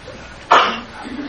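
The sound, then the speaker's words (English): A single sneeze bursts out suddenly, loud and breathy, then fades within a fraction of a second, leaving a quiet low murmur of background noise. “Bless you.”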